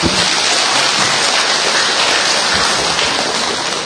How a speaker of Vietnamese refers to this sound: Rồi chúng ta cho một tràng pháo tay thưa anh chị em.